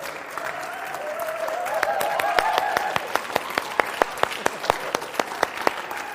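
Audience applause for two wardens, thanking them for their service, swells into a dense patter of many hands, then thins out into fewer, sharper claps falling into a steady rhythm as it winds down. No one speaks over it.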